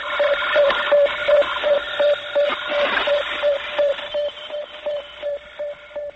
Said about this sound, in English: In the last months of 1957, for example, we heard the beeps of Sputnik 1, the sound of our first small footsteps towards the distant worlds.